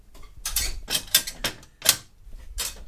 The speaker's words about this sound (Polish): więc pipczy co chwilę coś pyka, bo się załączają różne sterowniki.